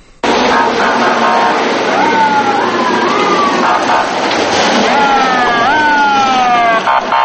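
Fire engine sirens wail continuously in rising and falling sweeps, loud, during a fire service drill in the center of Sukhumi, Abkhazia, with no actual fire, layered over a steady roar of city traffic and street noise, with no one speaking.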